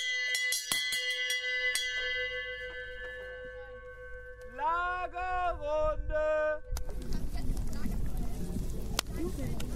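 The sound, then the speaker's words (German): A gong is struck several times at a camp to open the evening gathering, its loud metallic ring lingering and humming while a voice sounds briefly, then the tone gives way to rushing outdoor noise. “Der Gong hat die abendliche Lagerrunde eingeläutet.”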